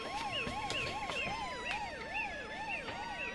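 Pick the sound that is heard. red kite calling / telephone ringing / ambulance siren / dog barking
ambulance siren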